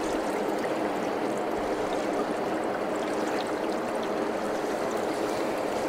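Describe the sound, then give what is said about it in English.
A steady, continuous rush of flowing water in a big river, broad and even throughout with no pauses, moderately loud, with no voices over it. “Well, in big rivers like this, whenever a steelhead has deep water escape, they'll lay in the soft water.”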